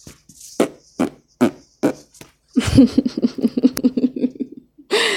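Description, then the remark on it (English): A series of wet, squelchy fart noises made with a person's armpit: five short separate pops, then a longer sputtering burst of rapid flapping, ending with a brief final squeak. Fairly loud, no talking. “You know, I can still make those fart noises with my armpit.”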